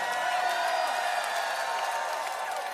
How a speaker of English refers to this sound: Now give it up louder, louder, clap louder, scream louder.